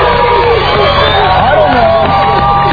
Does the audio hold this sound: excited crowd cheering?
yes